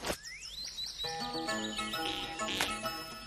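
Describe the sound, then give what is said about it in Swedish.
A parrot in a forest chirps and whistles, starting with a rising glide, then a run of bright, tuneful tweets with a sharp burst near the end, fairly loud. “Vad är det där? Papegojan!”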